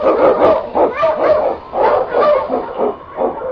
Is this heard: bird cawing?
no